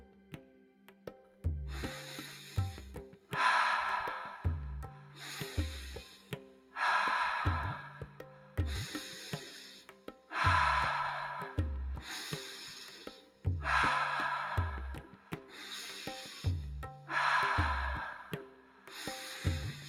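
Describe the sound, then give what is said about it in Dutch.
Rapid, forceful deep breaths repeat in a steady rhythm during a breathing exercise, about eight loud inhale-exhale cycles, over a low, droning musical background with no talking. “Laatste diepe ademhaling en hou even vast aan de top.”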